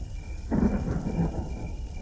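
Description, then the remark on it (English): Rain begins to fall after a quiet moment, arriving with a sudden low rumble like thunder, then settling into a steady wash of noise. No voices are heard. “What was that? Rain? Rain!”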